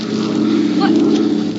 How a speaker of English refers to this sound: The plane's going away. They didn't see us.